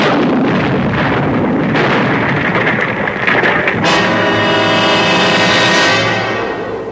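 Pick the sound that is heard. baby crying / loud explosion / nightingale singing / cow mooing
loud explosion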